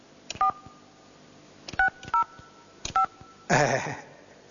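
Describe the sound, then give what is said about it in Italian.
A phone number is punched in on a keypad: four short, steady two-note beeps at uneven intervals, each with a faint button click, followed by a louder burst of buzzy noise. “E quindi sono costretto a fare un altro numero.”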